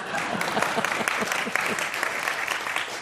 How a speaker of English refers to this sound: Number one, historically, every time we have seen capitalism in America get off track, we've reformed it. We have not succumbed to... Yes, you may applaud that.